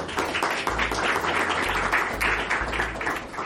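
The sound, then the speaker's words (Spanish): A crowd applauds steadily, many hands clapping at once in a dense, sustained wash of sound that stays fairly loud and even throughout, with no talking over it, welcoming a speaker who is about to give a presentation on sustainability and technology. “quiero invitar a Camilo a que nos acompañe y recibámoslo con un aplauso”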